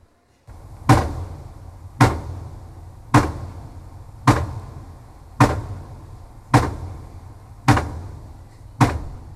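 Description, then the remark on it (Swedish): Underwater recording in the Baltic Sea of pile driving, a large steel foundation for a wind turbine being hammered down: eight loud, evenly spaced booming strikes about every 1.1 seconds, each with a sharp onset and a decaying low rumble beneath a steady murky background. “Det här är alltså en undervattensinspelning. Det låter som det är ovan ytan, men så här låter det under vattnet när då?”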